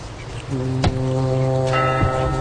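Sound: church bells ringing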